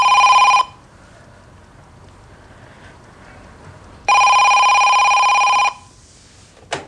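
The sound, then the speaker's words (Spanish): A telephone rings in two loud electronic bursts, one cut short at the start and a longer one after a pause of quiet room tone, clear with no one speaking. “Queda petrificada al oír el teléfono.”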